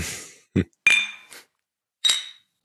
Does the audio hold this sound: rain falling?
no